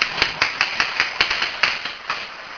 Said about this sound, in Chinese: 谢谢大家的拍手，真的是非常欢迎大家